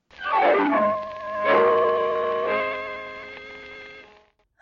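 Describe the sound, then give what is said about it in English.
A dog howls in one long, wavering cry lasting several seconds, its pitch sliding down at first and then holding steady. It is fairly loud, with no talking over it. “I wonder how the dogs will like that.”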